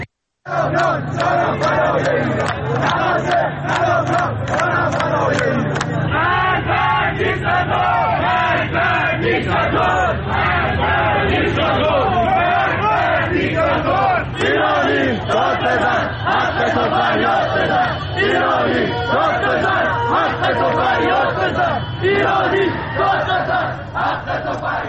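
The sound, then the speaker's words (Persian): A large crowd of protesters, reported in Tehran, Shiraz and Gohardasht in Karaj, chants mostly political slogans in unison on the fourth consecutive day of protests. Many voices shout together in a steady rhythmic pattern that stays loud and dense for the whole stretch. “بر اساس ویدیوهای تازه‌ای که در شبکه‌های اجتماعی منتشر شده، معترضان در شهرهای تهران، شیراز و گوهردشت کرج در حال سر دادن شعارهایی با مضامین اغلب سیاسی مشاهده می‌شوند.”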